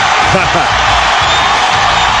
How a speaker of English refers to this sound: And listen to this reaction as Peyton takes the field. His crowd is thrilled. And you'll hear the roar.